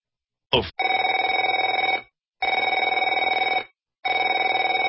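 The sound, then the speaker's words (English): A telephone rings in three long electronic trilling bursts with short pauses between them, preceded by a brief click, loud and alone with no voices. “Afraid to answer it?”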